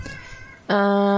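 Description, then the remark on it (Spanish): Someone makes a loud, drawn-out meow imitating a cat; it starts abruptly after a quiet moment and holds steady to the end. “Escuchan sonidos de gatos en el viento.”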